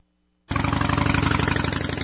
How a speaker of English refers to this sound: Loud motorcycles aren't cool. They're just chilly. Turn down the volume and show some respect.